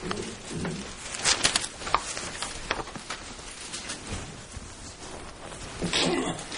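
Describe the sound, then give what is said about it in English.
A short, breathy sneeze bursts out amid faint rustling and shuffling noises, followed by more soft scuffing and another brief breathy burst near the end. “Bless you.”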